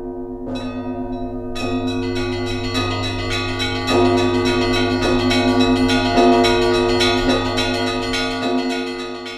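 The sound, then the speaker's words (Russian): Russian church bells ring for Christmas in a dense, overlapping peal, with strikes arriving every second or so over a sustained, shimmering hum of ringing tones. The bells are loud, with no voices. “Не Пасха, перезвону нет, а стелет звоном, кроет серебром, как пенье, без конца начала.”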